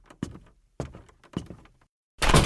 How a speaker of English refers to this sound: I shut my door hard behind me and locked it immediately.